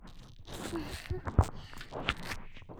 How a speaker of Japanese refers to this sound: 泡の音、パチパチして気持ちいいでしょ。この音を聞いてるだけで、もうゾクゾクしちゃう。